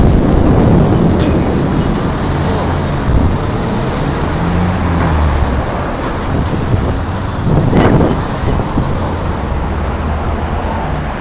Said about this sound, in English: That was thunder. There's flashes of thunder everywhere. Sorry. Flashes of lightning, sounds of thunder.